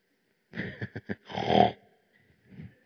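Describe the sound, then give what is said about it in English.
A person imitates Jesus snoring while asleep in the back of a boat: a few short, rough snorts followed by one longer, throaty rasping breath, loud, then a faint breathy trail. “Can you hear Jesus snoring?”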